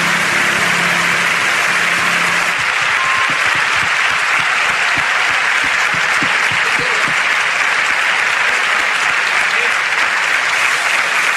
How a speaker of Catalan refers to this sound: El salt al piano, un aplaudiment, sisplau.